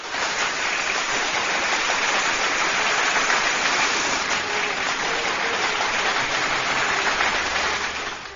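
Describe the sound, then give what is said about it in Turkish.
Steady, dense applause from many hands after a poem reading fills the whole stretch, a sustained crackling roar at even loudness that tapers slightly at the very end. “Kocaman bir alkış”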